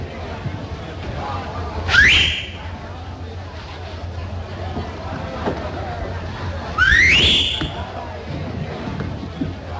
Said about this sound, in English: Soft pedal on that whistling, little lady. It's bad luck.